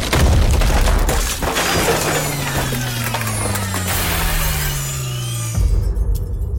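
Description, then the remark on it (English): A ceiling in a burning, smoke-filled building caves in with a loud, sustained crash, debris clattering and rumbling down amid long groaning creaks, ending with a heavy thud. Forceful, with no voices. “A crashing noise erupted over my head like the building was ripped in two. I looked up, just in time to see the ceiling cave in on me.”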